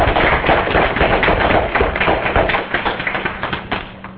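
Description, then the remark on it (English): A conference audience breaks into applause to thank the organizers, a dense, steady crackle of many hands clapping at once that thins toward the end into more separate, scattered claps. “This is really a way to get cheap applause.”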